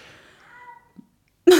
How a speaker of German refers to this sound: Habt ihr das gehört? Das ist der Kater.